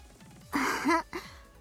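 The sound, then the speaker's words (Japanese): A single big yawn from a child: a breathy, drawn-out inhale rising into a brief voiced whine, then a short trailing breath. No talking. “大きなあくびしてる。”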